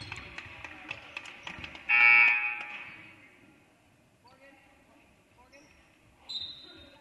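A loud, shrill whistle blast lasting under a second cuts through crowd noise and sharp ball bounces during a basketball game, followed later by a brief, fainter high tone.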